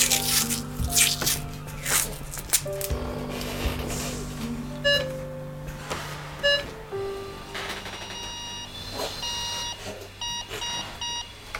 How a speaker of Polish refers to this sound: Po raz kolejny słyszymy utwór, który powstał na bazie rytmu wyznaczanego przez respirator, przez pulsoksymetr. Praca maszyny się urywa, a oddech zostaje.